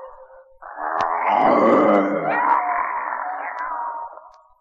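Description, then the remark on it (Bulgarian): A voice imitates a lion's roar, a long, loud, rough growl that swells and wavers for several seconds before trailing off. “И за да ти докажа, ей сега ще се превърна на лъв.”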